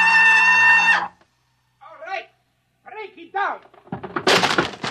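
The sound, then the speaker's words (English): A steady electric buzz cuts off, voices call out in short bursts, then a loud, noisy crash of a door being broken down bursts in over them at the end. “He'll break down the door in a minute.”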